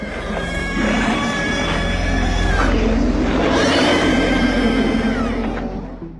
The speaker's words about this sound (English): There's a scene where a group of dogs transform into a weird, goopy, Lovecraftian creature. The shrieking sound it makes was created by combining heavily processed bird calls with pig squeals.